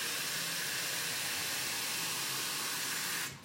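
coffee machine hissing

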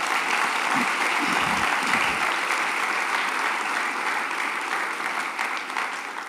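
church audience applause

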